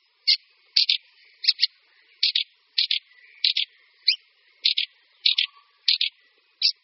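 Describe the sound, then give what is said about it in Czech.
Fieldfare calls: a steady series of short, harsh chattering notes, many in quick pairs, repeated about a dozen times with no other sound around them. “Kvíčaly, které přes naše území protahovaly anebo zde i zimovaly, bývaly odedávna chytány a loveny.”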